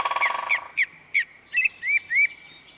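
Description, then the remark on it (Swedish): A bird sings a series of clear, repeated whistled notes, about seven short phrases in a steady rhythm, fairly loud against a quiet background with no talking. “Fåglarna vet inget om den här galenskapen, utan de lever sina liv.”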